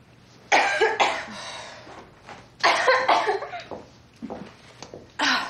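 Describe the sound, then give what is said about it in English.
A patient in a clinic exam room, with a cough of about a week, coughs repeatedly in short harsh bursts, grouped in two or three clusters with brief pauses between. The coughs are fairly loud, with no talking. “How long have you had this cough?”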